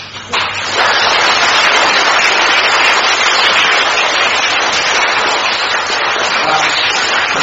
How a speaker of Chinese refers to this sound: 我要叫你们鼓掌响，还让你们开心笑得出来。如果我说，哎，你们怎么不好好的鼓掌啊？对不对啊？